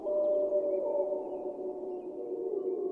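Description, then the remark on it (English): A wolf in Yellowstone howls in one long, sustained, fairly steady-pitched tone lasting several seconds, moderately loud and heard alone with no talking. “And that's the wolf. You see, there's a seasonal cycle to wolf howling.”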